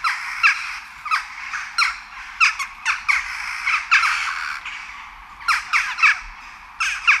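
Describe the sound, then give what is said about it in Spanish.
Sharp, squawky jackdaw calls repeat in irregular bursts, a chorus of short harsh chacks rising and falling in loudness over a faint steady hiss, with no voices present. “Esta es una falsa grajilla, un estornino. Y estas son las auténticas.”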